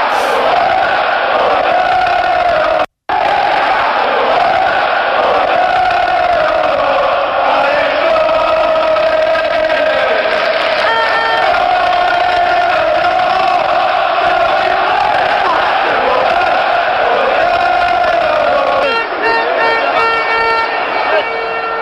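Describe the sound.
A large football crowd roars and cheers continuously at Turf Moor, the stadium of Burnley Football Club, a dense, loud wall of voices with chanting swells and shouts, broken by one brief silence early on.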